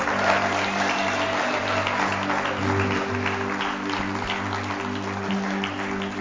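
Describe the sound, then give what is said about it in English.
An audience applauds steadily for about six seconds as a young man comes up to the front, a dense wash of many hands clapping at once over a low, constant hum, with no voices speaking. “I want you to applaud him as he comes.”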